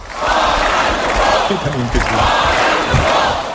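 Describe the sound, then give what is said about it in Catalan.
A large crowd at a rally chants the political slogan "Fora el Borbó!" in unison, loud and sustained. Rhythmic swells of massed voices repeat the phrase over a constant roar. The audience started the chant. “Primer ha estat el públic que ha començat a fer-lo i després … l'ha amplificat.”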